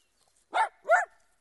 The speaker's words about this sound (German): Miko, aus! Hör auf zu bellen! Das ist aber ein schöner Hund, den Sie da haben. Der sieht so lieb aus.